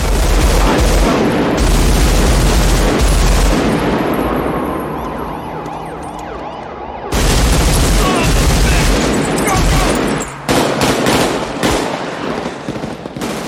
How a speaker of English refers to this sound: he pulls up a semi-auto rifle and just start, it might have been automatic, a full auto, and just starts blasting from inside the car, blowing out the windshield, the front windshield as you're driving.